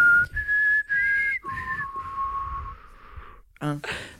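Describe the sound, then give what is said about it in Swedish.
A short whistled melody of a text-message tone: a few clear, sustained notes that step from a higher pitch down to a lower held note, ending with a brief noisy burst. “Ska berätta för dig att det var min sms-signal ett tag.”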